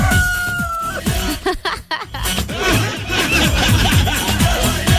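Chickens cluck busily and almost nonstop while a rooster crows, fairly loud against a noisy, crowded background.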